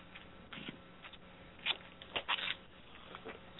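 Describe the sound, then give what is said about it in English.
Soft, papery bursts of a deck of cards being shuffled before a card reading, coming in short irregular flurries with brief pauses between, quiet, with no one speaking. “Amanda is shuffling the cards now, so to disconnect from the previous energy”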